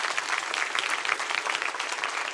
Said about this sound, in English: If God has been good to you, would you give Him a clap? Clap for Him.